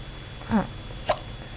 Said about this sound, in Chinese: 你怎么打嗝了，宝宝？